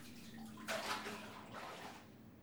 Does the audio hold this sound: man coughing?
no